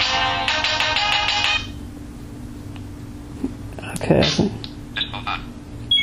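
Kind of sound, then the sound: signal or alarm, phone ringtone playing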